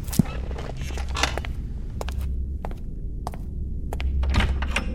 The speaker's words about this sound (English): With a sigh, I put my book down and go to the front door.